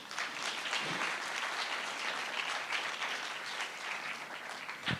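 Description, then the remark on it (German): An audience claps steadily for about five seconds to welcome three interview guests, a dense, even wash of many hands with no voices standing out. “Herzlichen Applaus hier.”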